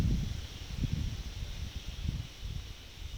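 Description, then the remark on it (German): Wind gusting steadily through foliage at midday, with a soft continuous rustle of leaves over low, buffeting rumbles that swell and fade unevenly. No voices, just the outdoor breeze throughout. “Der Wind kündigt Regen an.”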